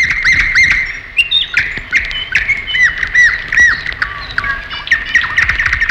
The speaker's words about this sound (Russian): именно на территории в это время как раз и поют соловьи курские, настоящие, и поют они безумолко